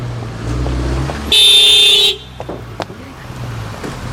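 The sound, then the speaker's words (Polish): A car horn blares at a pedestrian in one loud, sustained honk lasting under a second, over the low rumble of an idling engine and street noise. “Co pani robi? Nie widzi pani samochodu?”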